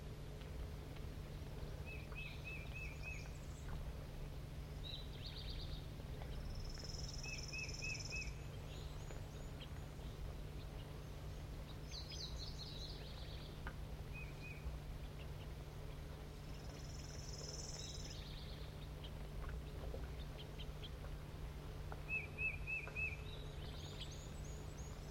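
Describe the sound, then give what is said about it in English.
A juvenile bird begs from an orange male bird that has been feeding it. Its thin, high-pitched begging calls repeat in short buzzy bursts every few seconds, fairly faint over a steady low hum and rumble. No one speaks. “The juvenile is begging from the male, who's an orange bird.”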